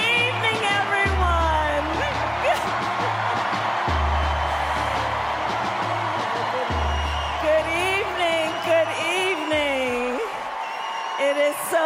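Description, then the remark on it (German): A large convention crowd in a hall cheers and applauds the Vice President steadily for the whole stretch, with whoops and shouts rising above the dense clapping, and a low pulsing musical tone running underneath. “Und sie ist da schon mal sehr frenetisch gefeiert worden von der Gemeinde. Sie hat viel Applaus bekommen.”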